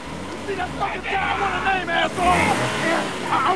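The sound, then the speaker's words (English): A car engine revs low and rumbling beneath loud, urgent shouting voices, with the engine's growl swelling briefly midway through, while a man is held in front of the car's wheels. “Lorna revs the engine.”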